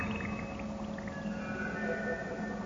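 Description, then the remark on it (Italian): Water runs steadily among rocks and broken beams at the end of a tunnel whose roof has collapsed, a continuous babbling rush with no pauses, carrying faint ringing undertones and no voices. “Fra rocce e travi spezzati scorre dell'acqua.”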